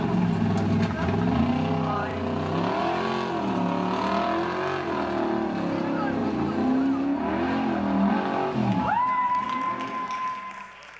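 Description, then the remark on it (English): A four-wheel drive vehicle revs hard and continuously as it tries to climb an almost straight-up cliff, its pitch surging and dipping as it strains, with crowd noise and shouting voices mixed in and a high whine near the end. “Here's a little video that I saw about a four-wheel drive trying to hit almost a straight up cliff.”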